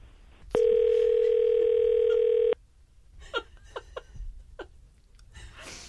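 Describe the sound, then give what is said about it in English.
A loud, steady telephone dial tone hums continuously for about two seconds as a phone call is placed, then cuts off, followed by a few short bursts of laughter and voices in the background. “Can we get Andy on the phone?”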